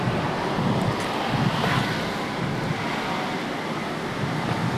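Strong wind buffets the microphone in a steady, loud rumble, with low-end gusts and a broad rushing hiss throughout, outdoors.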